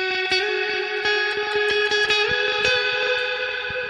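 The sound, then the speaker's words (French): An effects-heavy electric guitar rings out alone, its notes smeared into a dense wash by long, repeating delay pushed to heavy feedback and a lush 'glitz'-type reverb, with sharp picked attacks cutting through the sustained tail. “j'ai beaucoup plus poussé le délai et qu'il y a beaucoup plus de feedback et ça va plus loin quoi.”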